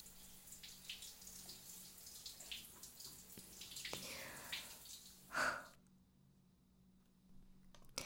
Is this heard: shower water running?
yes